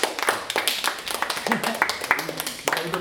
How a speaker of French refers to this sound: Et bah on peut applaudir, je pense, hein, monsieur le maire.